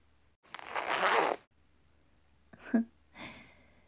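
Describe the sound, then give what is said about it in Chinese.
A boot zipper is unzipped in one long, raspy pull lasting about a second, followed by a couple of shorter, softer zipping rustles. No one speaks. “好了，小帅哥，来，帮我把靴子拉链拉下来。”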